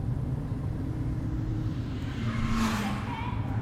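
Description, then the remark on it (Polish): A car engine drones steadily in a very narrow tunnel, its low rumble echoing and smearing into a thick hum, with a brief rise in pitch near the end as it revs a little. “To echo też jest świetnie zrobione, słuchajcie.”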